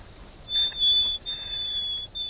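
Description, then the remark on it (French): A nightingale's position call, with which it always begins its song: a high, pure whistled note held steadily, broken into three long segments with brief gaps, heard alone over faint background hiss. “Alors, il commence toujours son chant par son cri de position, et après il décline son identité.”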